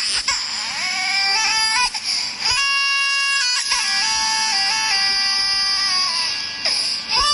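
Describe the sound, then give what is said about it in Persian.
A baby's wailing cries blended with a synthetic melody, like a phone ringtone, playing loudly and continuously with repeating tonal phrases and no speech. “من این رو بیشتر در جوانان مشاهده میکردم، لیکن روزهای آخر میبینم زنانی هستن که یک موسیقی هست که مثل از اون غشی من میبیند، یک گریه یک کودک با یک موسیقی پیوست شده است.”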